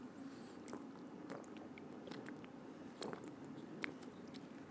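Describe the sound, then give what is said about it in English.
A person gulps down a drink, with a run of wet swallowing and mouth sounds repeating steadily for several seconds, fairly quiet, with no talking. “Jesus said, if any man's thirsty, let him drink. Drink is this.”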